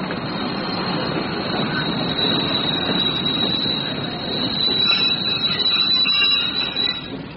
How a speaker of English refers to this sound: The train from Bournemouth West, Bournemouth Central, Southampton Central, Winchester and Basingstoke is now arriving at Platform 7.